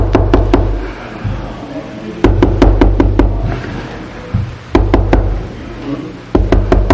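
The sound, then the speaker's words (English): Little children knock on a locked bedroom door in bursts of several quick raps, repeated four times with short pauses between, fairly loud over a low background hum. “lock the door, the bedroom door, so that she can go in and take a bath without hearing the little kids come up and”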